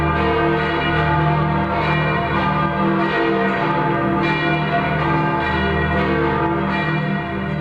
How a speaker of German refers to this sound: Im Petersdom in Rom, der größten Kirche der Christenheit. Wenn diese 6 Glocken gemeinsam läuten, dann weiß man, der Papst hat soeben seinen Segen Urbi et Orbi gesprochen.